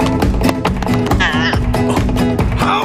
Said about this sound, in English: He leaps onto a barrel, spins, and rapidly taps his feet. Performing the splits between a chair and bucket, the masked cat claps slowly. The masked cat flips backward, then slaps his feet as he dances.